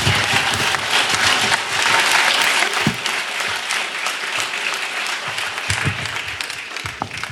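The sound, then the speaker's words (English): Sustained applause from an audience welcoming a speaker before an impromptu speech, a dense steady clatter of many hands clapping that holds strong throughout, with a few louder individual claps standing out near the end. “Nice round of applause for Jason Street.”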